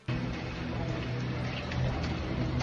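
Water drips and patters steadily from roof leaks inside the Congress building in Puebla, Mexico, a dense wet spatter with a few sharper drops standing out over a low indoor hum. No one speaks.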